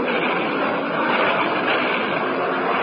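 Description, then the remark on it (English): A steady, loud propeller aircraft engine drones on without a break in flight, a dense rushing roar, with no voices over it. “A bandit at 11 o'clock, an unidentified plane.”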